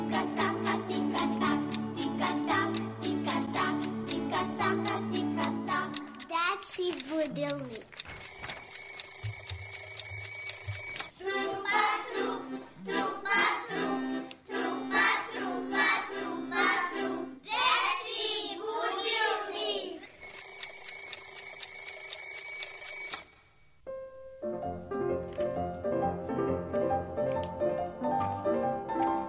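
A clock ticks steadily under a bright, toy-like tune opening the children's radio segment "Dečiji budilnik" (Children's Alarm Clock), broken up by loud bursts of ringing alarm bells. Children's voices briefly join in, and a softer melody closes it out.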